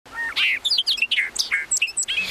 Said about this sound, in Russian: Он сидел на крылечке и наслаждался пением птиц.